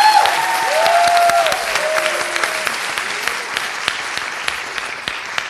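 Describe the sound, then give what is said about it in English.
A crowd applauds steadily for several seconds, a dense wash of clapping with a few whoops or whistles rising early on, then thinning slightly toward the end, welcoming author Madeline Miller. “But we are thrilled and excited and hope you will welcome with a rousing round of applause Madeline Miller, who's based in Philadelphia.”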